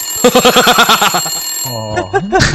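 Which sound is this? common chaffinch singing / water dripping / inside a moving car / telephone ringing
telephone ringing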